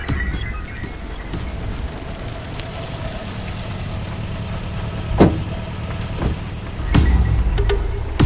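An old Mitsubishi car engine rumbles as the vehicle pulls up to a panel apartment building on the outskirts of Moscow, its low idle growing slightly louder near the end, with a steady hiss of rain and a few brief knocks. No talking.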